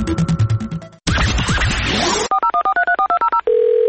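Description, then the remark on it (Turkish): A quick run of about a dozen telephone keypad dialing beeps, loud, each a short two-tone blip in steady rhythm, ending in a sustained tone, preceded by a burst of noisy clatter. “Salam, telefonu niyə götürmürsən?”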